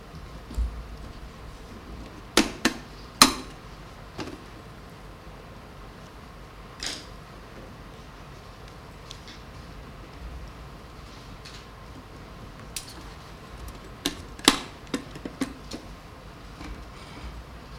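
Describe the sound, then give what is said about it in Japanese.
A ballot box is opened and inspected before a secret-ballot vote: scattered sharp clicks and clacks come in two small clusters, with a steady low hum between them and no voices. “投票箱を改めさせます。”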